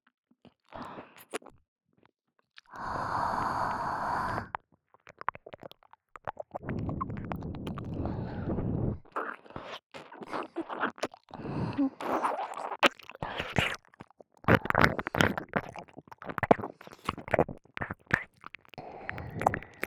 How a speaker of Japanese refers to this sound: お耳に熱い吐息を吐くと、お耳がゾクゾクしますよね。